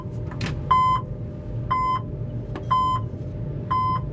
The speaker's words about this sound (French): Donc, localisation alarme voyageur porte. Donc là, j'ai bien mise en action d'une alarme voyageur en R8, remorque 8. Alors, explique-moi comment tu éteins ces foutus bip maintenant.